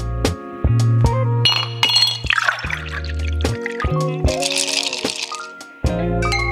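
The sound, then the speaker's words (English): Glasses clink together again and again in a toast, about a dozen bright ringing taps at an uneven pace, fairly loud, with some rattling and liquid sloshing in between. “All right, cheers”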